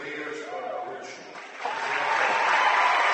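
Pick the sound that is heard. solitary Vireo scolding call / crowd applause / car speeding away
crowd applause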